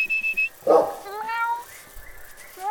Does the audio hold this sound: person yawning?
no